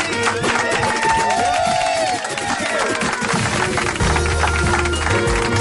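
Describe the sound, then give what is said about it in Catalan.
A crowd applauds and cheers loudly, a dense, steady wash of clapping and voices that carries through the whole moment without pause; the applause is prompted rather than spontaneous. “Gràcies per aquests aplaudiments induïts.”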